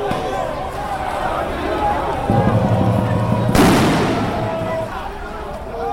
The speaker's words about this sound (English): Officers dispersed the crowd with tear gas, sound bombs and rubber bullets, later telling news agencies that they retaliated only after they were attacked with Molotov cocktails.